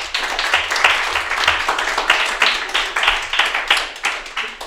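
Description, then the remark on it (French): The audience of the game show N'oublie pas tes standards breaks into steady, dense applause welcoming the first guest, many hands clapping together in a loud, continuous crackle that holds for nearly five seconds without voices. “On applaudit bien fort.”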